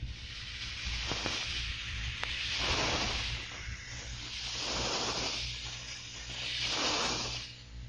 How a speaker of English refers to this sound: Target bearing 165. Sounds like a destroyer. Not too far away either.